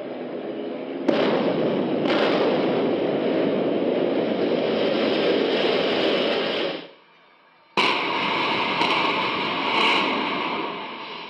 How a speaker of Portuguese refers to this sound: 3, 2, 1. E a explosão. Câmeras dentro. E fora do estádio registraram a implosão por vários ângulos.